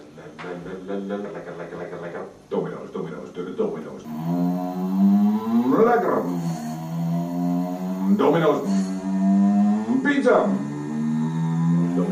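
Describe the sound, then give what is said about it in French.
A digital warning sound from a Domino's Pizza delivery scooter's loudspeaker in the Netherlands, announcing its arrival: buzzy, synthetic harmonic tones, choppy at first, then a steady drone with repeated upward-sweeping swoops every couple of seconds. “Donc ça, c'est diffusé sur des haut-parleurs qui sont sur des scooters Domino's Pizza.”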